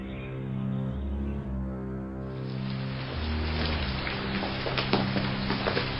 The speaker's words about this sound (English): Is this rain ever going to stop?